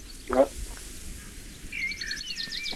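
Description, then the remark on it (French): Birds chirp outside through a just-opened window in Mexico City on a 33-degree day, a quick run of high, thin tweets in the second half, fairly faint over soft room noise after a brief knock. “Là, je viens d'ouvrir la fenêtre, vous entendez les oiseaux ?”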